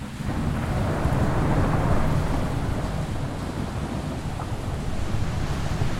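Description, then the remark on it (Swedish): A steady, loud roar of brown-grey storm floodwater rushing over the streets of Vega Baja, Puerto Rico, in September 2017, surging continuously for several seconds, with deep rumbling low end and a gusty, wind-blown hiss over the top. No voices. “Brungrått vatten forsar fram över gatorna i Vega Baja.”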